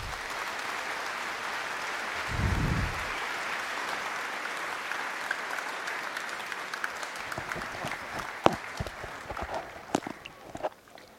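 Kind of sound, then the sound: crowd, audience applause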